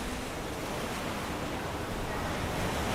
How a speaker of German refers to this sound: Links und rechts von dir rauschen sanft die Wellen und brechen an den großen Felsbrocken.